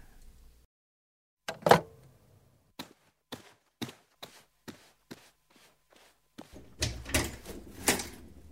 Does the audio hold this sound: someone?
yes